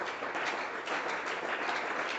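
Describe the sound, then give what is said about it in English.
Dense, steady applause from a church audience welcoming newcomers who come to greet them, many hands clapping at once in a continuous wash of sound with no voices and no pauses. “All those clapping that welcome you.”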